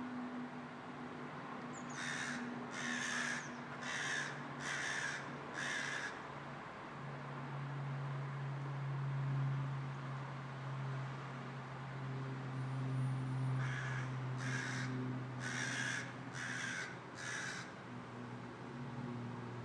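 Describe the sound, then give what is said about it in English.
Outdoor ambience with birds: two runs of about five harsh, evenly spaced caws, like a crow, separated by a pause, over a steady low rumbling hum. No one speaks. “And outside, we can hear the birds. Have a listen to outside ambiance.”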